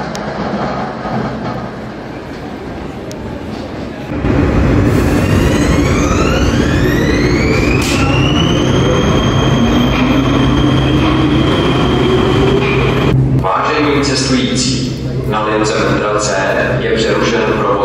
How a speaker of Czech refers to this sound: Už to taky jede, takže já vám tímto poděkuji za pozornost a nechte se spolu se mnou linkou pražského metra C odvést k dalšímu příspěvku.